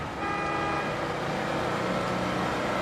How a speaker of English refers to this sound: She looks up when she hears a bus across the street.